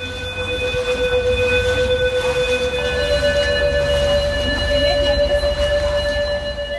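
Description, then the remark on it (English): Flood warning sirens sound steadily across Venice during high-tide flooding, over its ancient bridges and winding waterways: sustained electronic tones holding several pitches at once over a low rumble of ambient noise, with no voices present. “Over the ancient bridges, through the winding waterways, the sound of flood sirens.”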